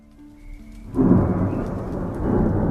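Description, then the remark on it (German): A sudden loud thunderclap crashes in and rolls on as a broad rumble, with steady rain pouring beneath it; no voices are heard. “Der nächste Tag begann mit einem krachenden Donnerschlag. Über Nacht war ein kräftiges Gewitter aufgezogen, dessen dunkle Wolken über den Gipfeln des Tmolos-Gebirges hingen und sich bei Sonnenaufgang direkt über Apollonia Cyberke entluden.”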